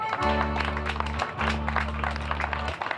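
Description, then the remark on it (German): A crowd gathered to enjoy the day and the fine weather applauds with a steady patter of many hands clapping for about three seconds, while a sustained low droning tone runs underneath, briefly dropping out midway. “Und ich denke, das können Sie vielleicht mit einem kleinen Applaus bestätigen, wenn es so sein sollte, der Fall, dass Sie das hier alle genießen.”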